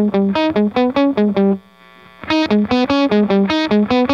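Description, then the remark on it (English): Distorted electric guitar through a Small Sound Big Sound Mini fuzz pedal used for a gated sound plays choppy, rhythmic chords that cut off abruptly into silence, with a brief pause in the middle before the stabbing riff resumes. No one speaks. “I like to use it, coincidentally, for a kind of gated.”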